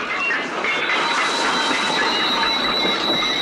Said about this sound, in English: The train suddenly jerks to a slower speed.